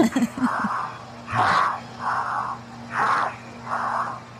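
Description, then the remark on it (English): Heavy, labored breathing of a man in freefall after a jump, going hundreds of miles per hour, in a steady rhythm of harsh, rasping inhales and exhales, fairly loud, over a constant low electronic hum. “Listen to how labored his breathing is.”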